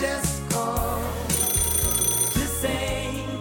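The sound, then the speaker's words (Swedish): A telephone rings with a bright, trilling bell tone over a short musical jingle with a steady, stepping bass line, announcing a caller phoning in to complain for 10 seconds. It is fairly loud and continuous for a few seconds, with no talking. “Klagoluren, det innebär att man ringer in och klagar allt vad man kan i 10 sekunder.”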